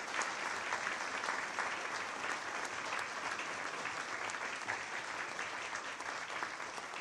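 Sustained audience applause in tribute to maestro Pina and his broadcasts. Many hands clap in a dense, steady patter at an even volume for the whole stretch, with no voices standing out.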